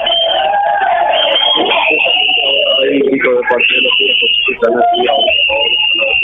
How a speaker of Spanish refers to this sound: ¿Quiénes son estas personas que están gritando y silbando ahí, Carlos? Los cuidacoches son de la sala de sesión.